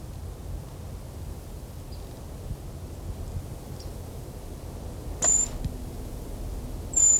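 Brown creeper, unseen and isolated from a dispersed flock, giving two brief, thin, high-pitched whistled calls a couple of seconds apart at 1 o'clock on 2 November, fairly clear against a steady background of wind and rustling noise. No voices.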